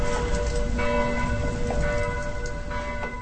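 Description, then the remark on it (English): Church bells ring steadily with sustained, overlapping tones in the small town of Lanchut in Moravia, near the Czech-Austrian-Slovak border, over a constant rumbling outdoor background, with no one speaking. “In the tiny town of Lanchut, near the Czech-Austrian-Slovak border, the church bells ring as I watch a horse draw a cart out of town and towards the 3,000 hectares of the Podlužní forest.”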